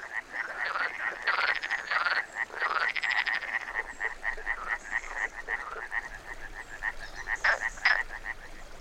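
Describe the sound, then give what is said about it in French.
A dense chorus of common frogs, small European tree frogs and toads croaking in woods at dusk in cold December, with rapid repeated calls and occasional louder rattling trills standing out over a steady pulsing background of many animals. “apparaissent trois amphibiens très habituels dans ces bois. La grenouille commune, la petite grenouille de Saint-Antoine et le crapaud.”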